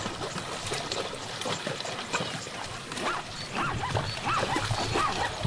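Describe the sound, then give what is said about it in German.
Zebras walk through shallow water near the shore, their hooves making a steady stream of irregular splashes and sloshes, with faint animal or bird calls rising in the background toward the end. “Das hier sind Zebras, die in Ufernähe durchs flache Wasser laufen.”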